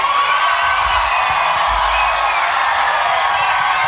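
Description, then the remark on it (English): A live audience at a recorded show cheers and whoops continuously, a dense wash of shouting voices with scattered higher yells and some clapping, loud and steady throughout. “This crowd is awesome.”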